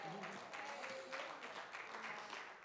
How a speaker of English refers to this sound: Don't clap for me, but clap for Jesus.